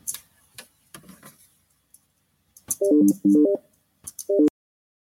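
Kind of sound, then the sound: signal or alarm, telephone keypad touch-tone beeps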